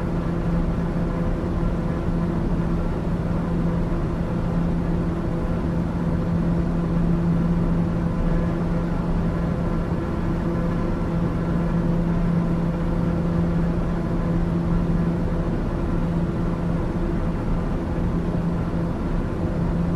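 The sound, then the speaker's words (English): A steady, continuous aircraft engine drone with a low humming tone, holding an even loudness for the whole stretch with no voices or other sounds over it. “Listen to these engines all day though. I mean, it's an amazing engine that we got here.”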